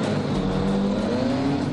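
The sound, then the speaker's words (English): A monohull boat's motor drones loudly and steadily, its pitch wavering and slowly climbing with a strained, labouring tone, and no voices over it. “That boat is making some rather ominous noises. I think he's lost drive.”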